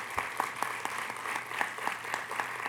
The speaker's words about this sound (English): All right, guys, I think we're ready to hear from our authors tonight, so let's give a round of applause before they start coming.